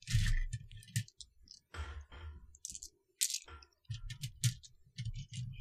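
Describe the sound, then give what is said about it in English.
Dice clack and rattle together in bursts of dense clicking as someone grabs more dice and shakes them, with brief pauses between handfuls and no voices. “But I'm just grabbing more dice.”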